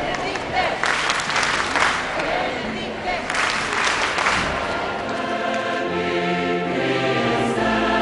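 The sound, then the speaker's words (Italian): A huge crowd of about 400,000 people applauds and cheers at a Mass with Pope Benedict XVI at the Zagreb Hippodrome, Croatia, in a dense, sustained wash of clapping, with a murmur of voices and some steady tones emerging beneath it toward the end. “Accolto da una folla festante di 400.000 persone che hanno gremito oltre le attese la struttura a pochi passi dal fiume Sava e salutato da ben 1.000 sacerdoti e 60 vescovi fra croati e dei paesi vicini,”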